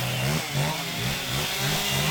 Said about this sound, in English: Located just behind a car dealership, a cacophony of chainsaws hangs in the air.